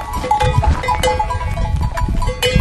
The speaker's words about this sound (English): is actually the sound of donkeys eating shrub on the side of the Tiger Leaping Gorge trail.